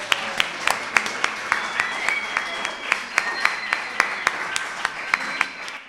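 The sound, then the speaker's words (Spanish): A small audience applauding, sharp individual claps overlapping in an irregular patter that holds steady for several seconds at moderate loudness, with a faint murmur of voices underneath. “Un aplauso, por favor.”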